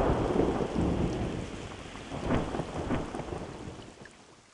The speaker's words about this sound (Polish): Burza błyska, grzmi i wieje, straszy wszystkich, świat zaleje, powywracam wszystkie drzewa.